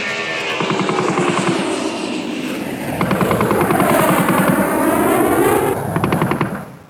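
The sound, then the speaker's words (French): A loud military aircraft roars low overhead, its engine pitch sweeping down as it passes, with rapid rhythmic thudding bursts pulsing through the steady drone for about seven seconds. “Mon père travaillait à l'aviation, à Payerne, mais au bord du lac, il y a un poste militaire à Forel, où les avions venaient tout au long de l'année tirer.”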